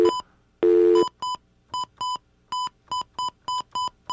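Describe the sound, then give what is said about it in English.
Telephone dialing tones as someone places a phone call: a longer tone followed by roughly a dozen short, evenly spaced keypad beeps, loud, with no one speaking. “You know what? I'm just going to get on the phone here.”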